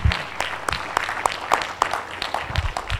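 An audience at a conference applauds the panelists after an afternoon panel, many hands clapping in a dense, continuous patter with a few sharper individual claps standing out, moderately loud throughout.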